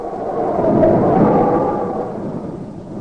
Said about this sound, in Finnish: Silloin oli kevätmyrskyjen aika ja tuuli ulvoi.